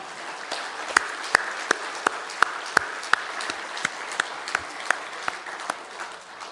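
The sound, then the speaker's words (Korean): An audience applauds steadily in thanks to wives and mothers, a dense wash of many hands clapping with sharper individual claps standing out at a quick, regular pace throughout, fading slightly toward the end. “우리 생각났을 때 우리 아내와 엄마를 위해서 감사의 박수 한번 치십시다.”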